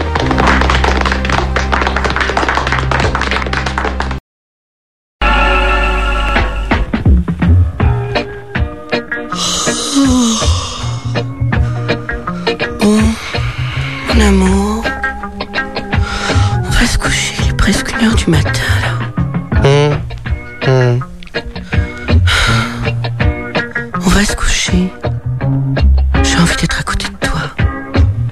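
A karaoke backing track of a pop song plays loudly and steadily, with full instrumentation and a bright melodic line, broken by a brief silence early on before the music resumes.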